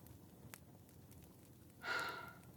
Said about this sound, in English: I mean, you're snoring and I think you're adorable.